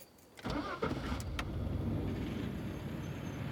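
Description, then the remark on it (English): A truck engine cranks briefly and then catches, settling into a steady, loud rumbling idle with no voices present, on a cool August night before sunrise. “He drives up into the mountains, and after 3 hours or so, he arrives at the dirt trail he has in mind.”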